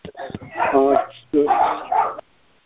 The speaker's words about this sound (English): Hey, dog. Oh, it must be John's dog.